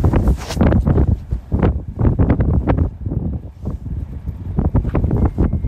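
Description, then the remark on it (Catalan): Strong Arctic wind in Svalbard roars and buffets the microphone in loud, uneven gusts, with deep rumbling surges rising and falling continuously throughout. No voices can be heard. “El vent és un dels sons omnipresents a Svalbard”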